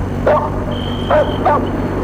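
Dogs bark in three short, sharp bursts, baring their teeth in front of an old house at the far end of a park, over a steady low background hum, with a faint high tone lingering between the barks.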